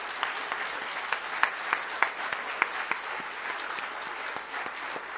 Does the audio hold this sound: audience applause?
yes